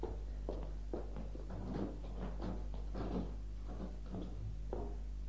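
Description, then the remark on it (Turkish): A door lock is worked with a series of clunks and metallic clicks, about a second apart, over a steady low hum with no voices. “Şimdi kapıyı kilitleyelim de mutfak tarafına geçelim.”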